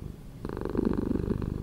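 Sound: cat purring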